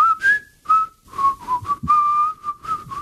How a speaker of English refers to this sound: I thought you were going off the rails altogether, boy, when you started to whistle.